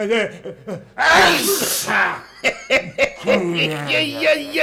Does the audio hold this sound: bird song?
no